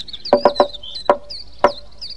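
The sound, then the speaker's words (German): A mother demonstrates a secret knocking signal: three quick knocks in a row, then three more knocks spaced slowly apart, each a sharp solid rap, with faint high whistling chirps running underneath. “Wenn ich wieder mal in den Wald hinaus muss und ihr müsst allein zu Hause bleiben, dann macht ihr nur auf, wenn ich 3-mal schnell und 3-mal langsam klopfe.”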